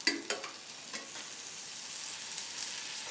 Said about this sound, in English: Then, cook some onions in a frying pan.